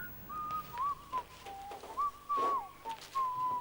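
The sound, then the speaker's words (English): A man whistles a wandering tune outdoors while pulling an old bicycle out of a pond, steady pure notes gliding up and down with short breaks between phrases, against faint background noise. “She hears Matt whistling outside and with a worried expression on her face goes to the window.”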